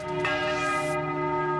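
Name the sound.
church bells ringing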